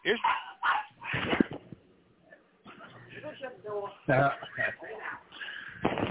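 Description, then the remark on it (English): A dog in a car barks and yelps in a few short bursts, mixed in with people talking over it. “Car dog on duty.”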